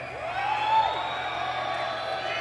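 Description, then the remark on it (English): A single sustained whistle from the audience, deliberately imitating PA feedback, swoops up and then falls away over about a second above a steady crowd murmur that continues after it fades. “I can't tell if people are whistling or we've got a bit of feedback on the PA.”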